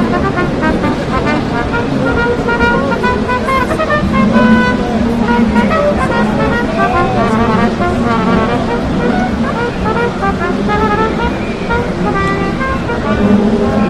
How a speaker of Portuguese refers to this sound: Um cara tocando o corneta aqui, velho. Vamos filmar. Deixa eu ver se dá pra ouvir.